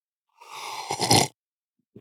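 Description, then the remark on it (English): A single loud slurping sip of coffee lasting about a second, airy and wet, followed by a soft knock a moment later, with no talking. “That was a very good loud sip, and let's get into it.”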